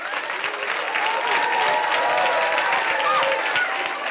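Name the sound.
audience cheering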